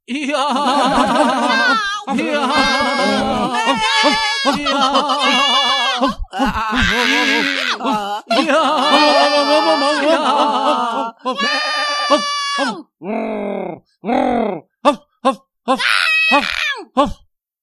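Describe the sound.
A loud, chaotic chorus of barking, meowing and farmyard animal cries, voiced by people imitating the dog Rek and the cat Mína, with the animals of the stables, pigsty and henhouse joining in; overlapping wails and bleats break into short, sharp yelps toward the end.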